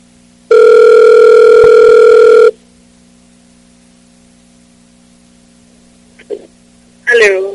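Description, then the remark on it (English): A phone line rings once with a loud, steady two-second ringback tone, then falls to quiet line hiss with no answer; a faint sound and a brief voice come near the end. “It's just not picking up.”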